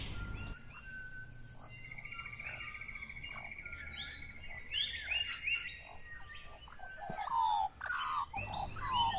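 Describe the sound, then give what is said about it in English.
A dense chorus of Australian birdsong, overlapping whistles, trills and sharp chirps from several birds at once, steady and lively throughout with a faint insect-like buzz underneath and no voices. “The sound you're listening to is Australian birdsong.”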